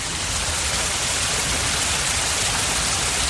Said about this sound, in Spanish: Pues escucha, Pilar, porque el agua ha vuelto a correr por las cascadas de la montaña.